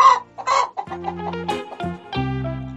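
A hen clucks in a quick, choppy series of loud calls, some stretching into longer squawking notes, with no talking around it.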